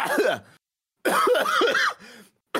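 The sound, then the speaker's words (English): A voice mimics a string of harsh, throaty coughs from a plane passenger two seats over, several loud bursts separated by short pauses, with a rough throat-clearing quality and no other speech. “A lot of coughing.”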